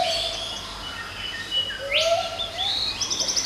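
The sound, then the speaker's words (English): A brown cuckoo dove hoots with soft, low rising whoops, mixed with higher bird chirps, a sweeping whistle and a quick trill near the end, over a steady outdoor background. “After the peacock, a brown cuckoo dove starts hooting away.”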